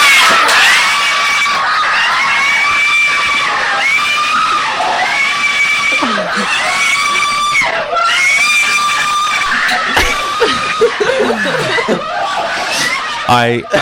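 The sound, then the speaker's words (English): Four Filipino men sitting on a bed scream and shriek excitedly while watching the Miss Universe result as Miss Philippines wins, high wailing voices overlapping in sustained bursts with breaks for breath, mixed with laughter and chatter. “This is four gay Filipino men sitting on a bed watching the result for Miss Universe.”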